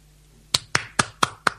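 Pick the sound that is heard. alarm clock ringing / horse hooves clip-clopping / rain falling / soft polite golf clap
soft polite golf clap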